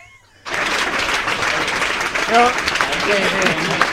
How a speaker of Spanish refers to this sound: Aquí coincido con los aplausos.